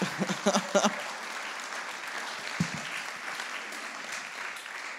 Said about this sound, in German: Ein Applaus.